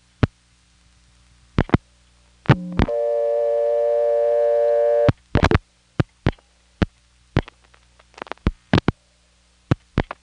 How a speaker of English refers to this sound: And now I'm going to dial a 9, which is going to hit a bad link. Now, in spite of the fact that we've gone from the step to the NX1, back to the step, that bad link can somehow still drop us back to dial tone.